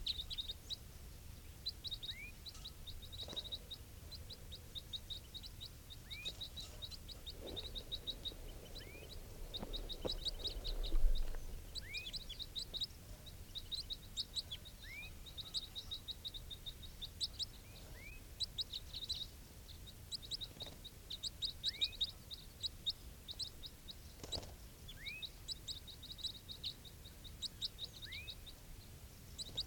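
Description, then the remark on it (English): Soft, repeated high calls of one wild bird: rapid chirping trills around a steady pitch, with occasional rising whistled notes, continuing throughout over a low background rumble, with no voices. The calls sound like call type 4. “So recording, these are the calls of one of the wild birds.”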